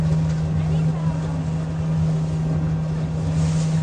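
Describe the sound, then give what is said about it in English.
A motorboat engine drones steadily on the water, its low constant hum running throughout, with wind buffeting the microphone and faint splashing around it. “Maybe our old boat out there coming in.”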